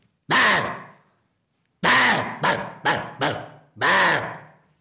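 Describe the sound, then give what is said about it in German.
A voice imitates a roe deer's alarm bark, the warning call it gives other deer on seeing a fox or a person: six loud, harsh, hoarse barks, one drawn-out call, a pause, then a quicker run of five, the last one long. “Wenn das Reh einen Fuchs sieht oder einen Menschen, dann warnt es die anderen Rehe. Und das ist ein Schrecklaut, der klingt so.”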